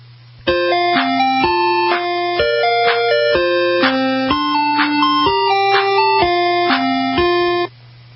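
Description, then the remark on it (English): An ice cream truck jingle, number two in a top 10 of ice cream truck songs played on Auto World, plays a simple, bright electronic melody of stepped notes at a steady, bouncy pace, loud and unbroken for about seven seconds over a constant low hum, with no talking. “Oh, we're getting closer to number one here this week on Auto World, the ice cream top 10 truck songs.”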